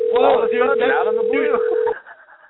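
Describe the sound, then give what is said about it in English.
A steady, unbroken dial tone of an outgoing phone call hums at a mid pitch for about two seconds, with people talking over it, then cuts off abruptly. “We're calling somebody.”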